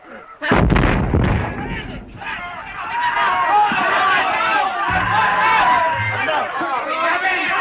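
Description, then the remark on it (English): In a trench-warfare scene from a 1930 war film, a single heavy artillery blast bursts out with a deep, rumbling boom as a soldier trying to go over the top is taken out, then gives way to a dense clamor of many men shouting and yelling over continuing low rumbles. “He runs through the trenches and tries to go over the top before artillery fire takes him out.”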